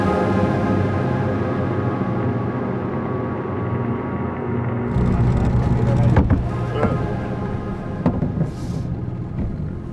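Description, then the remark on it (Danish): A small outboard motor dinghy's steady engine drone swells and roughens halfway through as it slows to land at the coast, where large stones lie, with a few knocks and splashes near the end. “Vi lægger til med jollen ved kysten.”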